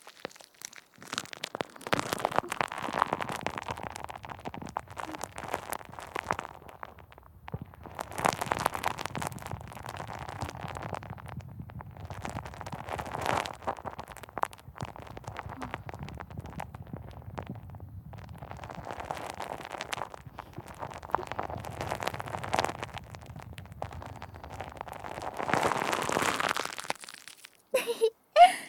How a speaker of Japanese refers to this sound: どうかな、 柔らかいふわふわは 炭酸がパチパチ弾けて気持ちよすぎるだろ